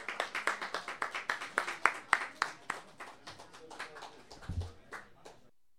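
A small audience applauds with a steady, rhythmic patter of claps, roughly four per second, moderately loud and tapering off after about five seconds.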